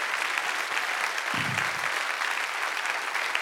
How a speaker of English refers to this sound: I wish somebody would clap your hands and praise the Lord.